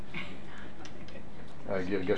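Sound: clock ticking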